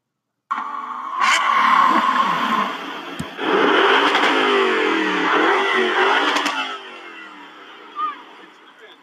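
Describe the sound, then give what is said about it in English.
A gasoline car engine revs loudly for about seven seconds, its pitch climbing and falling in repeated surges before it dies away, followed by a short faint blip. “If you chose it, then think about buying an electric car instead of a gas vehicle.”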